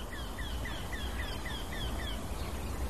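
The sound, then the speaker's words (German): A small, bunting-sized bird with bark-coloured plumage repeats a rapid series of short, squawking notes, about ten in three seconds, picking up speed slightly, over a steady background hiss with no voices. “Dieses Quäken mit quick, quick, quick, quick, quick, quick, quick, quick, quick, quick, quick, quick, quick, quick, quick, quick, quick, quick, ansteigend in der Geschwindigkeit.”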